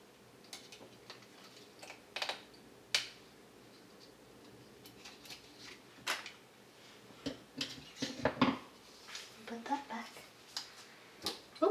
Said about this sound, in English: Tomato sauce. I'll put it in tomato sauce. Here's my can opener. Found it.